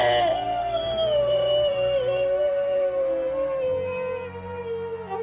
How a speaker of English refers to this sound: He stands up with her body in his arms and howls at the moon.